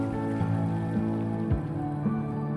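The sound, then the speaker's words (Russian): A stream's water trickles and splashes steadily, a constant babbling flow layered over soft sustained musical tones, with no voices present. “Или, услышав журчание воды, вам захочется подойти к ручью”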